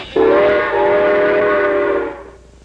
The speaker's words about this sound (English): How does a train go?